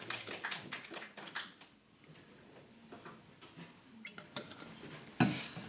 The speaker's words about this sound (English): Okay, so thank you very much for volunteering. Please sit down. Big hand. Round of applause.